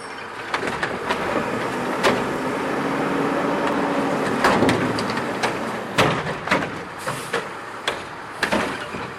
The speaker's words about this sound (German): Das ist ein Müllauto, oder?